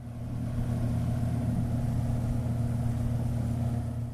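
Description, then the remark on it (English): A boat motor drones steadily on a boat travelling on the Pibor River from South Sudan to Ethiopia, a low, even engine hum with a rumbling hum underneath that holds constant throughout, with no voices. “filed this report on board a boat making its way from South Sudan to Ethiopia.”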